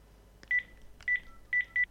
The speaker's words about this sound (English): So let me grab my home phone here, and I'm going to dial my iPhone in this case, and you can hear what the headset says when the phone rings.